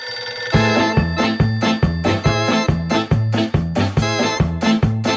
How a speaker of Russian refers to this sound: Зазвонил телефон на столе капитана.